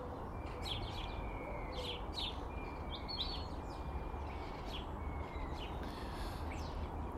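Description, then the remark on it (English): Wood pigeons, magpies and starlings call from a big beech tree in the morning in a busy jumble of chatters, whistles and harsh bursts, over a steady low outdoor rumble, with no talking. “Loads of activity in the big beech tree this morning. There's wood pigeons and magpies and starlings.”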